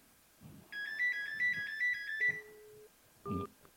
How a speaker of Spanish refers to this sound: Sí, el teléfono no para de sonar.